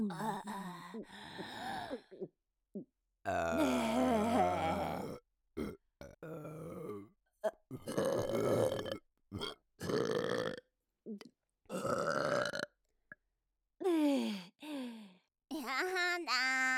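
A long series of loud burps, one after another with short pauses between. Some are drawn out and throaty, others quick and clipped, with a few grunting or moaning vocal sounds mixed in.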